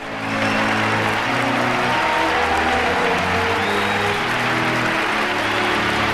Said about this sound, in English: The crowd cheers.